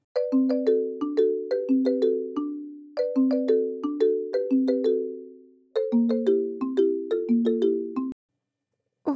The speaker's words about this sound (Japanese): あ、電話。旦那からだ。どうしたんだろう。